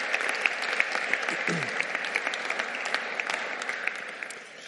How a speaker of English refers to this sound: Why don't we give them a round of applause, all those who've served us this evening.